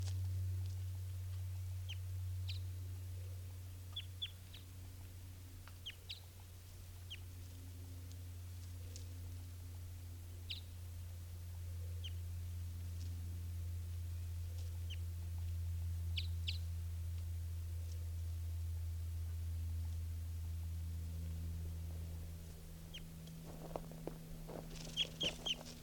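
female bird calling

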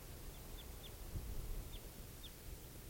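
type 4 crossbill calls

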